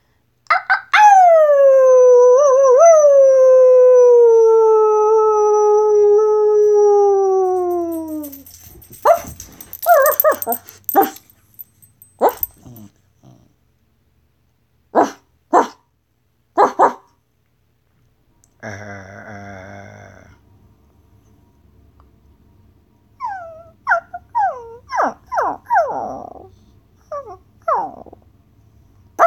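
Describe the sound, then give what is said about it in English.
A person imitates a dog, starting with a long, loud, wavering howl that slowly falls in pitch, then breaking into short sharp yelps and finishing with high, quavering whines and whimpers. “Sometimes they yelp, and sometimes they whine. So, I might just do all of those because I can do a dog.”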